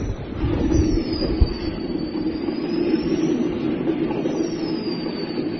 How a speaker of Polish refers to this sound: To jest, proszę Państwa, to co dałem Wam posłuchać, to jest hałas elektrowni Mardoni, a to jest wykres spektralny, taki prosty z przeglądarki internetowej, widmowy i widać w tym hałasie zarówno hałas w zakresie średnich częstotliwości słyszalnych